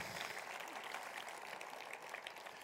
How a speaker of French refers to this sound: Voulez-vous applaudir le seul qui change les cœurs?